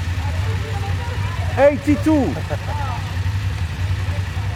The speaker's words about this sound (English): Is there anything more evocative than the sound of a group of BMW motorcycles? I don't think so. Think of the sight and sound of over 100 BMW 850 GS bikes together.